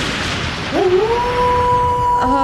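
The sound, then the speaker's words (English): A single long wolf howl rises in pitch, then holds a steady, drawn-out tone for over a second before a second howl begins, loud over a faint hissy background. “You just transformed yourself into a giant hairy wolf.”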